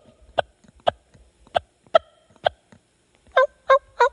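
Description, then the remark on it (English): A turkey hen's clucks made on a turkey call: five sharp, evenly spaced single notes, then a pause and three quicker, fuller calls close together. Clear, with no talking. “But and just to be clear, if you just slow that down, and instead of doing a bunch in a row and just do that same sound, yep, you just call that a cluck.”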